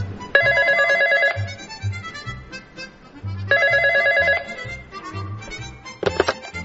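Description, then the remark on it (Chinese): A telephone rings in two long trilling bursts separated by a pause, then a short clipped ring near the end, heard over a soft rhythmic music bed with no talking. “你今天怎么会想要打电话给我呢？”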